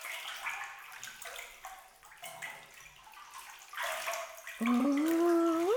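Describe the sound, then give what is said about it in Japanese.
Water sloshes and splashes in a foamy bubble bath in a bathtub, continuous with uneven surges, then a high squeaky tone rises over the water in the final second. “まさかここで憧れの泡風呂を体験できるとはの。”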